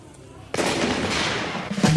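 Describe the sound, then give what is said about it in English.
After a brief quiet lead-in, a loud shotgun blast opens a record and leaves a long, noisy roar behind it, with another sharp hit arriving just before the end. “I could name that song in one shotgun blast.”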